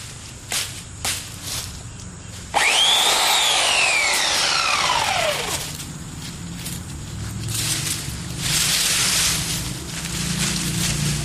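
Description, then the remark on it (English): A few light clicks and rustles, then a chainsaw roars to life, its engine pitch rising and dropping as it cuts branches, and keeps running loudly to the end. “You have to watch for kickback on any chainsaw.”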